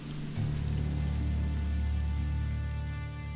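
Steady rain patters through a forest and drums on tent canvas in a dense, even hiss, with a low constant rumble beneath and no voices or pauses throughout.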